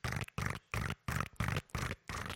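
A horse neighs in seven harsh, evenly spaced bursts, each loud, rough and throaty, with short silent gaps between them and no talking.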